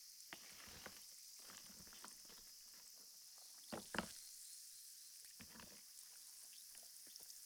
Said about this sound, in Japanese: タブレットを水に入れると炭酸になるんです。バブの頭用です。